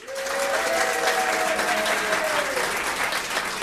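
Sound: audience applause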